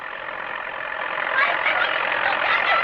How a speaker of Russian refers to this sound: Машина!